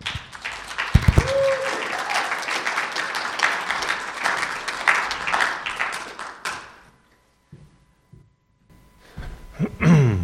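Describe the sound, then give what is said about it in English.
Steady audience applause welcoming a speaker fills the first seven seconds, a dense crackle of many hands clapping with a few louder claps near the start, then fades into quiet with faint shuffling and a breath. “So would you welcome with me my friend”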